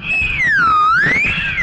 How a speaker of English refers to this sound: Then he'd whirl around on the grassy ground, and I'd whistle to him like this. Now let's make a whirling whistle.